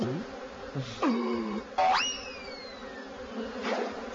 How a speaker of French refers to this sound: Oh là, je me suis un peu cogné dans les abeilles, baisse-toi!